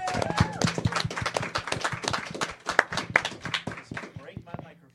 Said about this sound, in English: Thank you so much, everyone. I'd like to give you guys all a round of applause. Thank you.